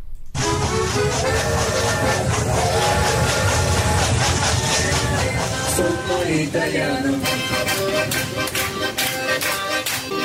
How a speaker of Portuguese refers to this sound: A viagem é de trem. No vagão, palmas, música e muita animação até chegar ao destino. Assim são os passeios turísticos para as vinícolas do Vale dos Vinhedos, no Rio Grande do Sul.